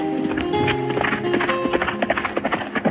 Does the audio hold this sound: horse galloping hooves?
yes